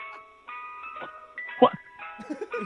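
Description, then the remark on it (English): A tinkling ice cream truck jingle, played as a sound effect during a prank phone call, plays steadily, its bright electronic melody sustained throughout, while a voice talks loudly over it in short bursts. “The ice cream truck sound? That's just noises. That's a sound effect we're playing.”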